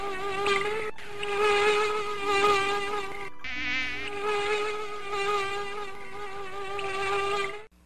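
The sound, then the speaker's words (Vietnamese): A dense swarm of mosquitoes whines continuously right by the ear inside a tent at night, layered high-pitched buzzing wavering in pitch for several seconds, loud and steady with a brief dip in the middle. “Đó là sự tạm thời khác biệt giữa một đêm yên tĩnh, nghỉ ngơi và một đêm phải chịu vô số những chúng sanh nho nhỏ, điên cuồng, hung hăng, vo ve vang rền bên tai và hè nhau đâm chích vào mạch máu chúng tôi.”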